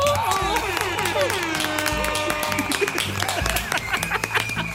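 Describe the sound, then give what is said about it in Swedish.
Loud, dense applause from a crowd, with cheering voices and a brief tooting horn sounding over the clapping throughout, in the I Like Radio studio. “Vi kör en applåd och en liten tuta på det!”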